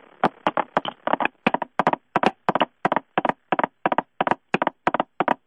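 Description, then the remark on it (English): A steady run of short, sharp knocking bursts on a blown instrument played in 5/4 time, grouped in quick pairs and clusters like clip-clopping horse hooves, repeating evenly and fairly loud with no talking. “You don't need to have a knock on that thing every time you blow it. Well, it sounded like a horse hoof.”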